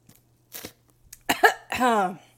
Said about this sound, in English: Oh, I kind of get a little excited drinking it. I guess I'm choking on it now.